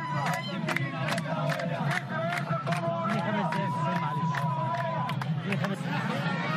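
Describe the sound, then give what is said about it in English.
Women ululate with high, warbling trills over a dense, noisy crowd of villagers gathered outside a polling station in Dakhalia province, Egypt, applauding those going in to vote; overlapping voices and chatter fill the background throughout. “A large crowd of villagers gathered outside a polling station in the province of Dakhalia as women ululated from time to time to applaud those who were going in to vote.”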